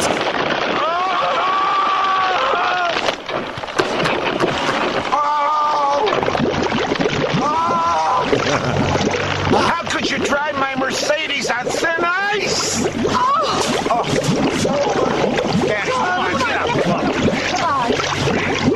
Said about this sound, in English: And play special attention to the sound of breaking ice and gurgling water.